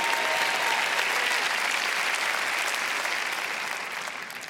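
Steady audience applause, a dense, even patter of many hands clapping together for several seconds before gradually thinning out toward the end. No voices stand out.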